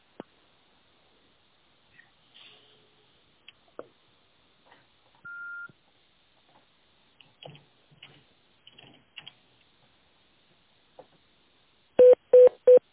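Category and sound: signal or alarm, telephone extension dialing tones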